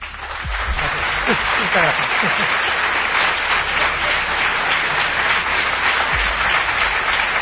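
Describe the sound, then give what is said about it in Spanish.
A large audience applauds steadily for several seconds as Jesús Callejo is welcomed, a dense, even wash of clapping with a voice briefly audible over it near the start. “Y cómo no, para Juan Ignacio Cuesta, que después además os cantará y tendréis ocasión de aplaudirle más, si se lo merece, por supuesto.”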